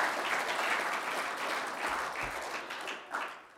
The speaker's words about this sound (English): But if you guys could give them a round of applause, you probably won't be able to see them stand.